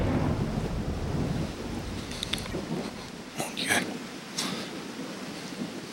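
A low rumble of thunder rolls through the first few seconds, then steady rain patters on, with scattered drops and splashes standing out sharply against the continuous hiss.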